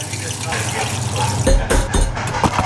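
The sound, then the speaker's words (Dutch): Six crunchy spicy McDonald's Chicken McNuggets being bitten, with a few sharp, crisp crunches in quick succession breaking through a steady, hissing background noise. “Je luisterde naar 6 knapperige spicy chicken McNuggets.”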